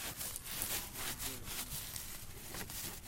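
A bar of handmade soap, called Africana Soap in Sierra Leone, being grated before being sold: quick, rhythmic rasping strokes, about two or three a second, steady and fairly loud, with no voices over them.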